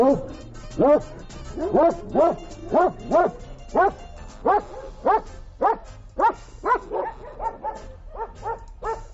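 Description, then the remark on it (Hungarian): A Hungarian puli herding dog barks steadily, a rapid run of sharp, regular barks, nearly twenty in quick succession, with no talking. “A legbefutottabb magyar terelő kutyasztár.”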